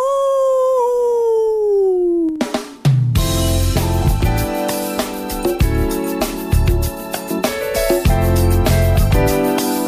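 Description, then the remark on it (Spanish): A long, drawn-out werewolf howl sweeps slowly downward for a couple of seconds, loud, before a brief crash gives way to busy, rhythmic music. “El hombre lobo. ¡Aú!”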